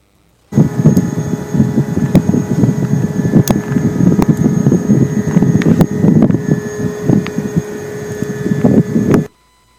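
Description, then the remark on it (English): A steady, screechy whine like a vacuum or grain dryer drones for about nine seconds over a rough, rumbling roar, with thin high tones held throughout and brief crackles, recorded about 50 yards from a pump station, downwind with the wind from the southeast. No one speaks. “So you can kind of sense that it's, like I said, I refer to it kind of as a screechy vacuum, or I know a lot of people refer to it as like a grain dryer noise.”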